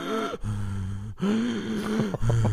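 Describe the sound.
A voice imitates a man breathing very loudly in his sleep at night: three long, rasping breaths with a low, voiced, snore-like drone, each separated by a brief pause.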